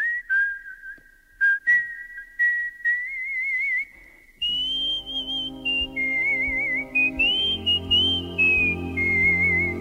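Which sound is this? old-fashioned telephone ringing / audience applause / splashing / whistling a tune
whistling a tune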